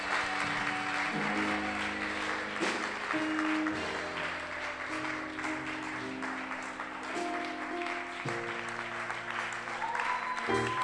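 An audience applauds steadily, a dense wash of clapping, while sustained organ or keyboard chords play underneath throughout.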